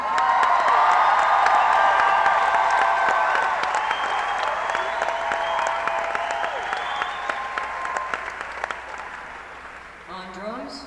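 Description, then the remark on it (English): A concert audience applauds and cheers loudly as a band member is introduced, with dense, steady clapping and a few whoops, holding strong for most of the stretch before thinning out near the end. “He's going for the applause meter tonight, wearing a Chicago Cubs shirt.”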